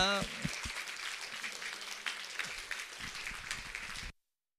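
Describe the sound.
An audience at a church's 41st anniversary concert applauds to welcome the I Sinfonietta ensemble and its director to the stage, a steady, dense wash of many hands clapping at an even loudness for about four seconds before it cuts off abruptly. A voice is briefly heard at the start.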